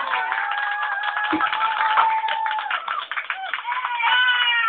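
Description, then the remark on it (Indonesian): An audience claps steadily for about five seconds, a dense, even patter of many hands with no break, and some voices murmuring or cheering underneath. The sound is thin and tinny. “Luar biasa, tepuk tangan.”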